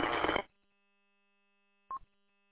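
A harsh burst of radio static at full volume cuts off abruptly, leaving a low electrical hum, then a brief crackling chirp with a short tone breaks through, like a choppy transmission with lots of interference.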